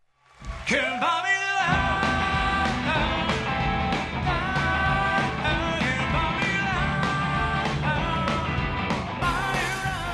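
A sold-out concert crowd at the 9:30 Club in Washington, D.C. screams and yells while waving hands and lighters, over a loud live band of four mop-topped players with steady, pounding drum hits, the shrieking voices sustained throughout.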